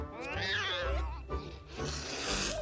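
A sitting white cat lets out a loud, drawn-out meow with a wavering, sliding pitch, followed by a rougher, noisier yowl, with no talking.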